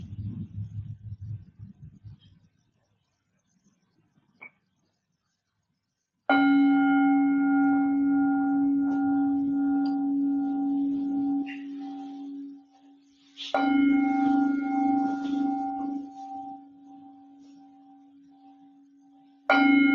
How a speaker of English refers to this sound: Now I will ring the gong 3 times. When the gong finishes sounding for the 3rd time, that signals the end of the meditation period.